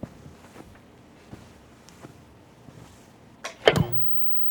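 footsteps

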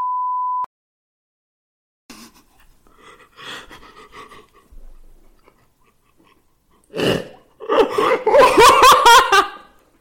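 censor beep

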